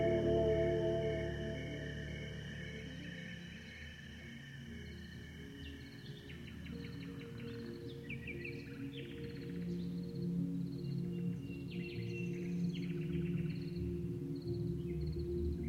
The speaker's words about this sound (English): Aurelia didn't realize that the birds sing all night on her farm in the Loire Valley.